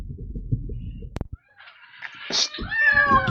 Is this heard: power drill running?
no